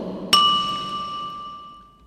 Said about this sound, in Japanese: あの鐘を鳴らすのは私です。